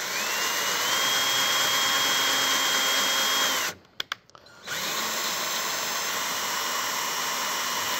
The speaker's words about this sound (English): All right, when you do this, you wanna put your drill on the lowest setting just so you don't grind up the threads. Okay. You turn it down a little bit. And then, again, straight up and down as possible. And you're just slow about it.